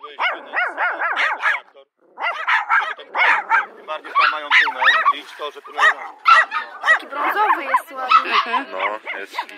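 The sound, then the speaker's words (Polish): A tumble of puppies yipping, whining and growling from a hole in the ground, with high-pitched barks piling over one another almost nonstop, broken by a brief lull before the chorus resumes. “No i zeszliśmy się w to miejsce i faktycznie dziura w ziemi i słychać takie takie powarkiwania, poszczekiwania, no to ewidentnie szczeniaki.”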